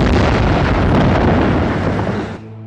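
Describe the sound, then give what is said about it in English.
A loud, sustained explosion roars for about two seconds as a dense, rumbling blast, then abruptly drops away into a low, fading tail, set off shortly after a satchel was dropped from a helicopter. No one speaks. “And a short time later, there was an explosion.”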